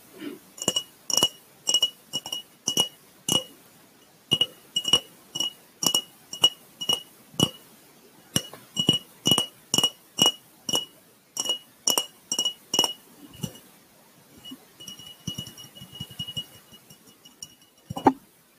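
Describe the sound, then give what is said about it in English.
Crisp tapping on a glass jar, dozens of bright clinks in steady bursts with short pauses between, ringing slightly; no talking. “I personally love glass tapping sounds, even not in an ASMR video or episode on Anchor.”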